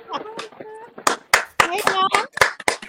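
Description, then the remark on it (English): A burst of applause from a soundboard effect: sharp, irregular claps with cheering voices mixed in, fairly loud throughout the short clip. “I got a soundboard. I'm talking about it. You don't want us to clap for real?”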